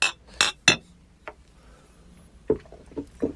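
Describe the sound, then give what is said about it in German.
Glasses clink together in a toast, three bright ringing chinks in quick succession. After a pause come a few duller knocks, like glasses being set down, with no voices. “Prost.”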